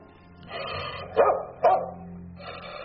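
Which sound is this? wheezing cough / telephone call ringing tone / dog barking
dog barking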